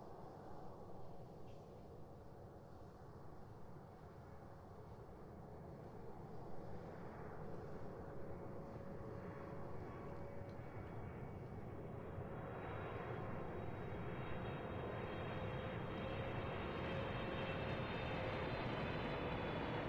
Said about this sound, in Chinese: 好了，现在我帮您扣一下安全带，因为飞机即将起飞了。好的，现在请您放轻松，飞机起飞的过程中耳朵可能会有点不舒服，但是没关系，放轻松就可以了。